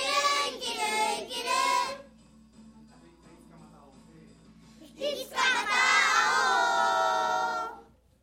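About twenty children from groups Red 9, Red 7 and White 6 shouting together loudly and energetically in two bursts, the first about two seconds long, then a brief quieter gap before a longer, sustained group shout.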